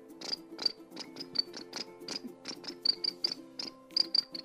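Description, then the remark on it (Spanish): Crickets chirp in a quick, steady series of short bursts, one after another, with a faint continuous hum running underneath and no voices. “Y los grillos comenzaban a cantar.”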